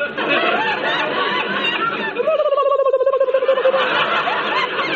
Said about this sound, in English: Yes, I have hiccups. But it sounded like a bird.